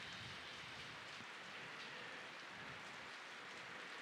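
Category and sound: nature, rain falling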